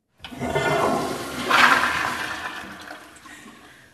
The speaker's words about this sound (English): So that was the toilet flushing, which we're very proud of because we're using recycled water and we've been able to save over 1.5 million gallons of potable drinking water